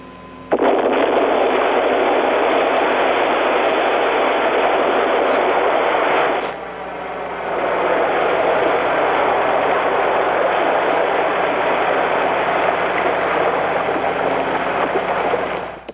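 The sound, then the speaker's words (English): A hotel building implosion set off by 1,400 blasting caps and 660 pounds of explosives placed in holes drilled into its pillars: a sudden, loud blast erupts into a long, dense roar of crashing debris that dips briefly midway, then surges again and rumbles on without letup. “1,400 blasting caps and 660 pounds of explosives were placed in holes drilled into the pillars of the building, and in an instant, that was the end of the new hotel.”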